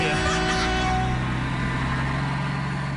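A heavy truck engine rumbles steadily, a loud low droning hum that holds constant for a few seconds with no voices over it, as the truck sets off to deliver Pabst Blue Ribbon whiskey nationwide.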